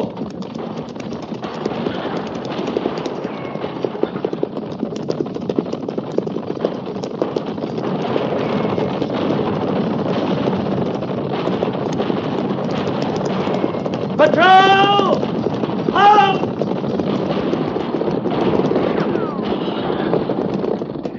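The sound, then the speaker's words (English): A dense, continuous rumble of galloping hooves pounds on for the whole stretch, loud and unbroken, with a couple of brief high, wavering cries cutting through about two-thirds of the way in. “Guns, Captain. At the gallop! Ho!”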